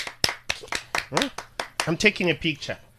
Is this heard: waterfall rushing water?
no